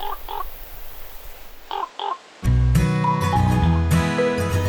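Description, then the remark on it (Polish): A common raven calls with a few hoarse croaks in two quick pairs over faint background hiss, then loud music abruptly takes over. “No, gdyby nie lasy, nie byłoby kruka, gdyby nie kruk, w górach i w lasach panowałby bałagan.”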